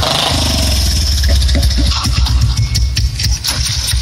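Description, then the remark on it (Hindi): A motorcycle given as a dowry runs steadily, a loud low engine rumble throughout with a few sharper revving bursts, and no voices. “हई मोटरसाइकिल दहेज वाला दे द फेर तहार बियाहवा कट गई लागत तू जिंदगी भर बाढ़े रह जइब।”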